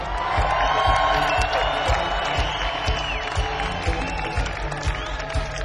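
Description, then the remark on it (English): A large concert crowd at a band show roars with cheers, whoops and shouts over steady applause as the band's lead vocalist and guitarist is introduced, the dense noise sustained and loud throughout, with a low rhythmic thumping beneath it. “And to your right on lead vocals and guitar, make a whole lot of noise for ….”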